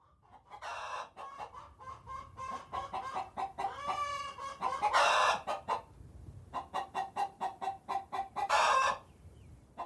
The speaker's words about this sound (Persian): مرغ قشنگم داره قد قد قدا میکنه، شاید داره منو صدا میکنه، دونه میخواد تا بخوره، برای من تخم بذاره.